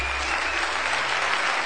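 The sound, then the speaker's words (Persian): Sustained applause from a large audience at the Moscone Center in San Francisco in early January 2007, as Steve Jobs appeared on stage to introduce the iPhone, a dense steady wash of clapping at even loudness, with no voices standing out. “او پس از تشویق بی امان حضار گفت: امروز تاریخ را عوض خواهیم کرد.”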